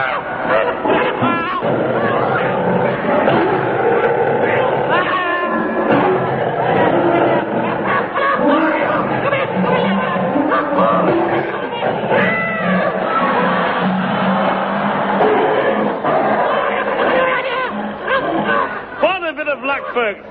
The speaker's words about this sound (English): Once the Bengal tiger was fighting Moriarty, I limped out of the cage and made my way to the banks of the Regent's Park Canal, where I am now standing.